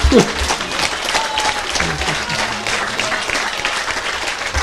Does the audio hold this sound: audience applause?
yes